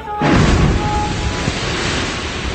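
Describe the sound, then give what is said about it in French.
A loud explosion hits the parliament building in Ankara, Turkey, in the middle of the night, bursting in suddenly after a brief quiet moment, followed by a sustained roar of rumbling debris and noise that keeps going without any talking. “une explosion frappe le bâtiment.”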